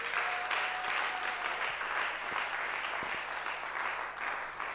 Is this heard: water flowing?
no